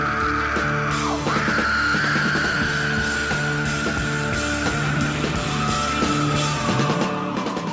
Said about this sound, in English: comes in screaming just after the whisper of the title of the song, and you're not even sure the first time you hear it was even said.